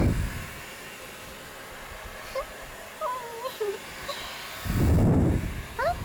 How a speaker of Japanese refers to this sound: このドライヤー、 これはうちの会社支給の特別製、その名もメイドライヤーだよ。 ドライヤーが同じ場所に当てないよ。